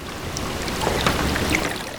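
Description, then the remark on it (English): Continuous underwater gurgling and bubbling beneath the ocean surface in Sitka Sound, recorded by Dr. Kate Stafford from a kayak on a winter day in November, a dense wash of watery burbles with scattered higher pops and clicks, steady and moderately loud, with no voices. “Do you hear that gurgling? That's sound from under the ocean's surface, recorded by Dr.”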